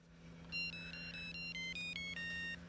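A car phone rings with a quick electronic melody, a run of bright beeping tones stepping up and down in pitch, over a steady low engine-like hum, with no one speaking.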